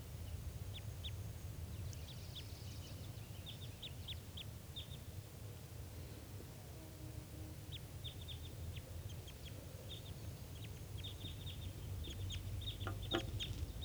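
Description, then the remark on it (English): A bird, bird 387, calls vigorously in response to playback aimed at wild birds at 9:22 a.m., repeating quick bursts of short, high, clucking notes that grow busier toward the end, over a steady low rumble and no talking. “Playing at the wild birds and getting bird 387 calling vigorously and back.”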